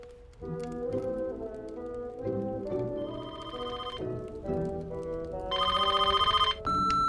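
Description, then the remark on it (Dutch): A telephone call to Bed & Breakfast de Geelgors rings with a bright, melodic ringtone, its tones shifting through a short tune before rapid, trilling bursts at the end. No one speaks. “Momenteel zijn wij niet in de gelegenheid de telefoon op te nemen.”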